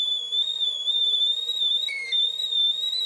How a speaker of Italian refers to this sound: I fotoni, il gatto e Albert Einstein inizia a fischiare come un bollitore di ghisa.